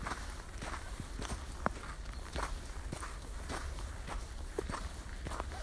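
Steady footsteps crunching through snow while walking alongside water, a dozen or so gritty, crackling steps at an even walking pace over a constant low rumble, with no voices.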